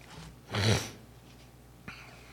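A single loud nasal sniff from someone with allergies, lasting about half a second, followed by a quieter, brief second sniff, with soft breathy noise between and no talking.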